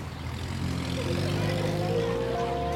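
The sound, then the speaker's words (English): A car engine rumbles on a street, a steady loud hum whose pitch climbs slightly as the vehicle moves past. No voices are heard. “A car honks as she steps into the road.”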